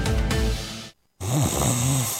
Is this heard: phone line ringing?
no